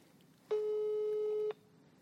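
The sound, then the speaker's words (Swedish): A single steady electronic phone tone lasting about one second, a clear pitched beep with harmonics, heard alone over faint background noise, as a call to the speaker's sister goes unanswered. “Jag måste bara dubbelkolla med henne nu. För hon har inte svarat.”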